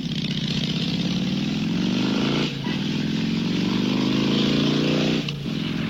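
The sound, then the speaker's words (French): A motorcycle engine accelerates hard, its pitch climbing steadily, dropping briefly at two gear changes before rising again, loud and continuous with no voices. “va me poser des questions sur ma passion, la moto.”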